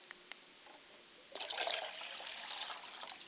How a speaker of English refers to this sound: I like to pour libations to the West, and I say, Ashe. I like to pour libations to the North, and I say, Ashe.